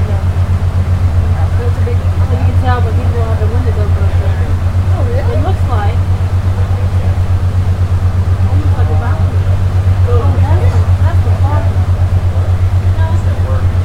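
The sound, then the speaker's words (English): A boat engine drones with a steady, loud low rumble as the boat travels down a river, while muffled voices chatter faintly in the background. “Just a few minutes, you're going to hear him power down the engine again.”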